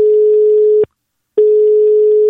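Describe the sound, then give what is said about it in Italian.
A loud, steady telephone line tone hums at a single pitch, breaking off for about half a second before resuming, as a call is being placed. No voices are heard. “Vai telefono, vai ciccio!”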